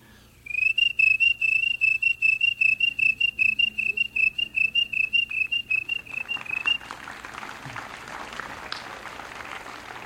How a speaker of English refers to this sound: Crickets. In this kind of weather, crickets can get together and really drive you crazy if you're trying to camp out.